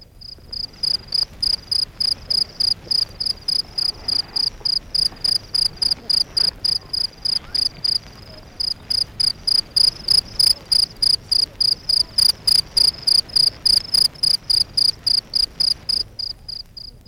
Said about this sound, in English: They rub this file very quickly back and forth over the edge of the outer casing. If you rub a pencil over the teeth of a pocket comb, you get a very similar result. Here's a cricket at work.